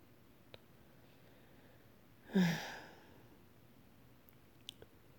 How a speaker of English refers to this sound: Yeah, I don't know why I'm sleepy today. Big yawns.